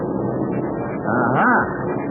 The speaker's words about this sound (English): I can tell from the sound of the motors. Harry, those are Uncle Sam's planes singing a sweet tune.